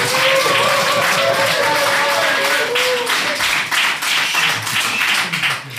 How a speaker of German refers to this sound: Komm, wir dürfen klatschen im Hintergrund.